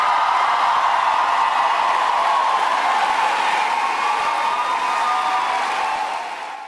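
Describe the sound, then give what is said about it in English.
A large crowd at a rally for Vice President Harris in La Crosse, Wisconsin, cheers and applauds steadily, a dense roar of clapping and shouting that stays loud throughout before easing slightly at the end. “Crowd really getting into it last night in La Crosse, Wisconsin, as Vice President Harris was there.”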